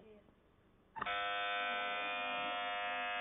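A contestant presses the buzzer on an Islamic quiz show on Madani Channel: a loud, steady electronic buzzer suddenly sounds and holds a continuous harmonic drone for over two seconds, following a quiet stretch with faint background activity.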